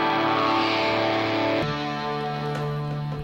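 A loud rock recording with thick, distorted electric guitar chords sustaining and then shifting to a new chord partway through, dense and continuous with no voices.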